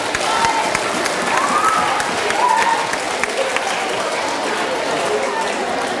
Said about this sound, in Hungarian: Hopp, itt van előttünk, tapsoljuk meg őket!